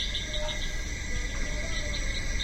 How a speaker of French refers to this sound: Mon ami, on est dans une jungle. C'est tropical, non? Une jungle. Ça, c'est des bruits de jungle.